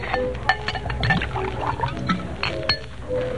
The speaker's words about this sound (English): Pour yourself a drink.